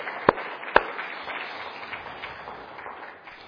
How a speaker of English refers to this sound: We can clap for them, right? If there's anything that we'd ever clap for.